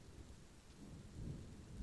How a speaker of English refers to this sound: Yeah, we can listen to the rain together.